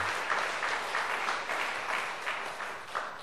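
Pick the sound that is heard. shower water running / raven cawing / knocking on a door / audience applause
audience applause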